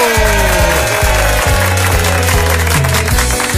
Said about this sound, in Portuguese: Recebam os aplausos do auditório mais animado do mundo!